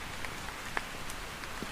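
Steady, dense rain that has suddenly grown heavy pours down, hissing across a broad range with scattered sharper drops striking surfaces. No voices, just a continuous wash of downpour.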